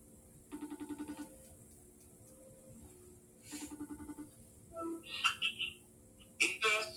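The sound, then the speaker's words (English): A FaceTime audio call rings out in two short bursts of rapid, warbling electronic tones about three seconds apart, followed by a few brief clicks and chirps. “Let me FaceTime him. FaceTime audio”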